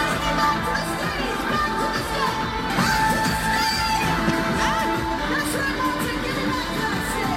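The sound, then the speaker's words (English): A large, dense concert crowd roars and yells continuously, with overlapping shouts, whoops and screams rising out of a loud, steady wall of noise, as a woman inside a giant water bottle is crowd-surfed far out into the audience and panics. “And they were crowd surfing this water bottle, and they started taking her way out into the crowd. And I pulled some audio of her kind of panicking.”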